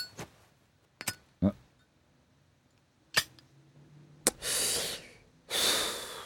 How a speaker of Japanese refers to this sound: 俺ライター。